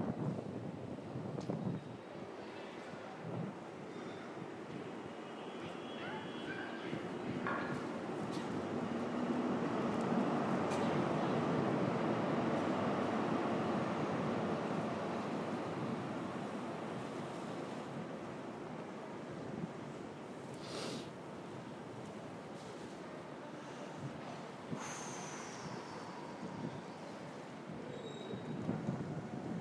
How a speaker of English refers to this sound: I'll just let you listen to the sounds of the station, and then eventually the train will come along, hopefully.